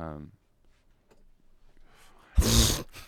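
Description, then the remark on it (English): A wet, spitty burst from a mouth imitating a fart, sputtering loudly for about half a second after a short voiced sound and some quiet breathy noise. “That wasn't even a fart noise. It was spit.”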